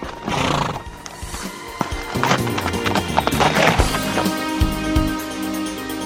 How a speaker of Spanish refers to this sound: Desde hace miles de años hemos transportado al hombre. Ahora nos lleva escondidos en el motor de su coche. ¡Pim, pim, pim, pim, pim! ¡Los caballos!